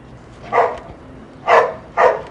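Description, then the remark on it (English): A young dog named Maz barks three times, sharp, with a pause after the first bark and the last two coming quicker together, no talking over them. “Maz is a young dog with too much energy to be around a thin 82-year-old man who's had three strokes and is in the early stages of Alzheimer's.”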